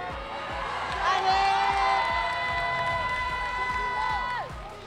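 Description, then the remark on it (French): During the first round of a boxing match featuring Evan Ferrandi, the crowd shouts and cheers loudly and continuously, with long overlapping yells that hold steady pitches, while a steady rhythm of dull low thumps pulses underneath. “Mais par contre, ça crie dans tous les sens.”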